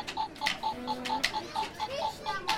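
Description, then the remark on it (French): The bomb timer of the party game Tic Tac Boum, played by boys, ticks steadily and quickly, a bright, even clicking about four or five times per second, with faint voices murmuring in the background. “Voilà, ils vont faire une partie de tic-tac-boom.”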